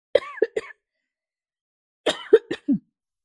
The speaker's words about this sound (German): Und du hörst es, ich huste. Es ist alles im Moment.